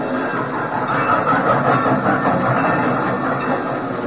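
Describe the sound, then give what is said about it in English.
A train rumbles steadily as it arrives, a dense, continuous roar of wheels and rail noise holding at an even loudness throughout, with no voices. “Here's the train.”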